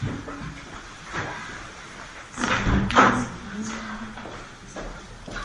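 A chair is shuffled and set down for a newly arrived person, with a couple of dull thuds and a brief scrape near the middle, amid a low murmur and faint voices in the background.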